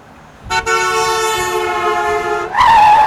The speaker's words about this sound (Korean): 야, 저 빵빵 저 새끼 잡아. 저 빵빵거리 새끼 잡아.